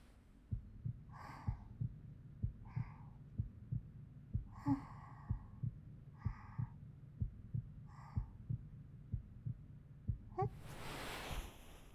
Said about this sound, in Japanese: じゃあ次は後ろから心臓の音聞かせてもらっちゃおうかな。